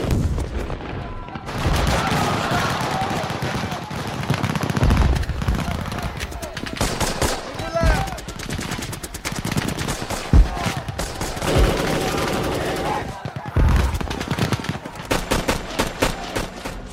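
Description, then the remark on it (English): A sustained, chaotic barrage of rifle fire crackles nonstop, punctuated by a few heavier grenade explosions, loud throughout with almost no pause between shots, as a company of soldiers fires at a perimeter. “A barrage of rifle fire and grenade explosions erupted from the rest of my company.”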